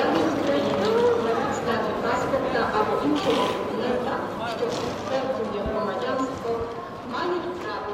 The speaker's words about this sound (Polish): Dworzec jednak żyje dalej, tłumiąc niepewność uchodźców dźwiękiem ruchomych schodów i ciągniętych walizek.